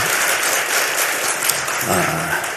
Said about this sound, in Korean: 네, 좋습니다. 박수 한번 치자.